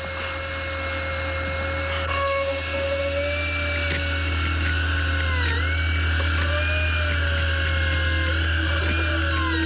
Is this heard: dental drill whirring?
yes